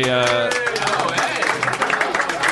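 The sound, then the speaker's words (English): A crowd bursts into steady, dense applause, many hands clapping at once, loud, right after a short tonal vocal sound at the start. “Well, hold your applause, because this is a segment of the show called Because I Don't Go on Reddit Anymore, What the Fuck is Going on Reddit?”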